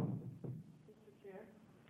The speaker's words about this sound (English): I'm going to close the public hearing and open a work session with the tap of the gavel on House Joint Memorial 28.